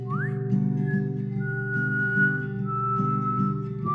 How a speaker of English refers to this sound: Give a whistle.